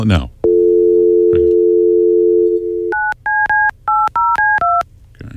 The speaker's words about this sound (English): How many of us throughout our lives have called that number thousands of times? Let's call it now.